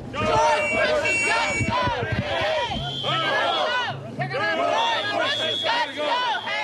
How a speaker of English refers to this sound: Even so, the president's visit to Ottawa drew crowds of protesters that grew during the day.